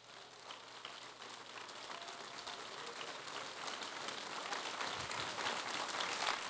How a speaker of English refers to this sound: Because when I clap my hands, I want them to clap under the anointing of the Spirit. And I want my hands to clap unto the King of Kings and the Lord of Lords. Why don't we do that right now, would you?